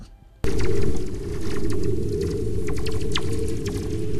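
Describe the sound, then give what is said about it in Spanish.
Whistler-mode radio waves, produced by moving electrons and recorded at a planet: a loud, steady low rumble and hiss with quick crackling streaks and brief sweeping whistle tones scattered across it, no voices. “Las ondas silbadoras.”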